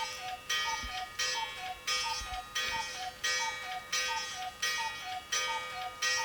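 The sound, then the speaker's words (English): A cuckoo clock strikes 11 o'clock, its two-note cuckoo call repeating in a steady, quick rhythm over a faint mechanical whir, clear with no talking. “That's 11 o'clock. And there's Edelweiss. Oh, I love my cuckoo clock.”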